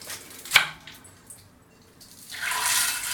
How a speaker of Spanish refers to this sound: Lavamos las lentejas aquí en el colador, con cuidado que con el agua no se vayan rodando. Bueno, pues que se van, ¿eh? Sí. Y vamos a echarlas a la olla.